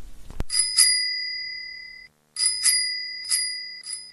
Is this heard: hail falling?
no